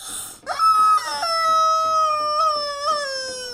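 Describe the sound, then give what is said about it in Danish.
A hen-shaped squeaky toy is squeezed, letting out one long, loud, wavering honk-like squeal that holds for about three seconds after a short puff of air, with no other sounds. “Ved siden af en kobraslange, som er ved at æde en skorpion, står der et pivedyr, der er formet som en høne.”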